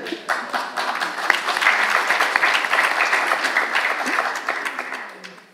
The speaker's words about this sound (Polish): Państwo się wzięli za ręce ci od papieru. Jakie to w ogóle brawa dla nich.